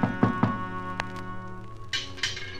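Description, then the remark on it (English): Three quick, dull knocks on the front door of Miss Evelyn Gardner's house, followed by a couple of sharper taps, all set against a steady musical background with no voices. “No one answered the door, but I heard someone in the back.”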